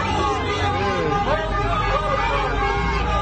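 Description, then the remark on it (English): Busy downtown Los Angeles street ambience: cars driving by with steady traffic rumble and honking horns, a man with a bullhorn, and a dense babble of crowd voices, loud and continuous throughout. “So you got cars driving by a street in downtown LA, you hear the honking horns.”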